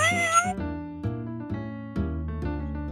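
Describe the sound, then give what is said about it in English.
A cat from The Aristocats meows near the start, with a rising and falling cry, over light background music that continues as a steady series of sustained notes. “They are a happy family of cats.”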